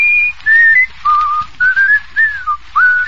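A man, a quiz contestant, whistles a short melodic tune to earn points, a string of clear sustained notes sliding up and down in pitch, fairly loud with brief gaps between phrases.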